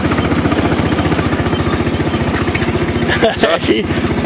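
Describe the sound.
A small vehicle, insured to drive as a tractor and able to reach at most 20, chugs steadily with a fast, even putter, and a brief voice or clatter cuts in near the end.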